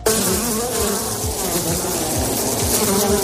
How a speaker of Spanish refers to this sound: Un enjambre de abejas invadía la pista obligando a suspender el partido durante horas. Un apicultor tuvo que afanarse para quitárselas de encima.